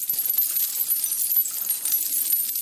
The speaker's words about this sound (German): Vögel und märchenhafte Glaswesen klingen an den Ketten, die er am Ständer durch das Atelier mal hierhin, mal dahin schiebt.